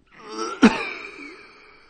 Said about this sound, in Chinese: 田福堂说着，一阵猛烈的咳嗽使他一个马趴跌倒在了破念坛边上。他感到喉咙里吐出来的不是痰，而是血。